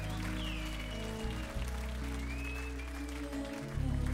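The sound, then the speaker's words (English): A crowd gathered for the evening gives music a round of applause, clapping steadily for about four seconds, a dense wash of clapping with a couple of high whistles rising above it and a low steady hum underneath. “Let's give music a nice round of applause, because of music we are gathered here tonight.”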